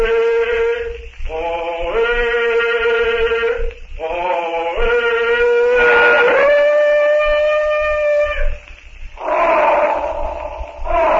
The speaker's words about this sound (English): And from the jungle comes the answering call of Tarzan's friend, the trumpeting of Tantor the elephant.